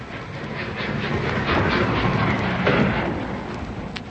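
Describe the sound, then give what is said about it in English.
A train rolls in on time with a steady mechanical rumble and faint rhythmic clatter, loud, swelling slightly midway before easing off as it pulls into the station. “They get to the station and hear the clock chime. And would you believe it, the train was on time.”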